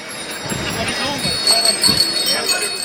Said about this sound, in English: We had fans cycling around Dublin in Edwardian dress with their bicycle bells ringing.